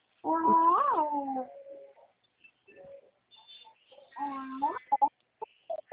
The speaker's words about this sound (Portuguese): Não precisa gritar, neném. Peraí que o papai vai fazer mais.